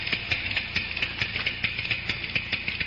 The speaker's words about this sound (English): What with all these electric clocks and digital clocks and electronic clocks, the good old-fashioned ticking that marks off the minutes and hours of the night is rarely heard.